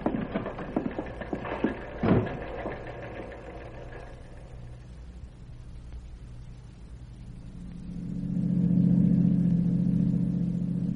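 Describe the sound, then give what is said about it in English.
A car engine drones steadily as it drives toward an amusement park and camp area, a low hum under some brief clattering knocks early on, then the engine swells louder and rumbles toward the end. No one speaks. “We can leave the car at Watkins' store.”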